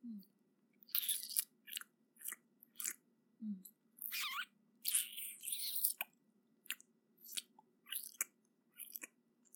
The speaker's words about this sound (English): Is it as sloppy and as wet as you like? From my scan of your cock's nerve endings, it seems you enjoy it when I tease your frenulum with my tongue, while I slurp your precum hungrily, like this.